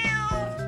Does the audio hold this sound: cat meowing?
yes